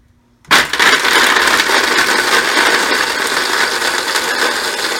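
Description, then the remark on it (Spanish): A blender switches on abruptly at speed number 2 after a brief near-silence and runs steadily, a loud, dense whirring grind with rattling texture as it blends almonds into a paste, no voices over it. “A ver, cocinerito, me puedes colocar encendiendo la licuadora y el número 2.”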